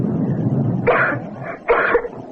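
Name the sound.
violent coughing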